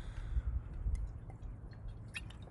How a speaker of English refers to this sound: You know, as I drink my blue glass water that I've been singing to, no idea if that does anything, but what if it doesn't? What if it does?